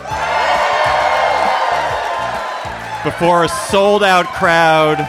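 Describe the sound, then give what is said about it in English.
A large sold-out live audience in New York cheers and whoops loudly, a dense wash of crowd noise with individual shouts rising out of it, while a man speaks over the din. “We're live at the Bell House in New York before a sold-out crowd.”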